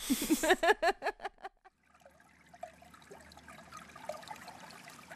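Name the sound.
water sounds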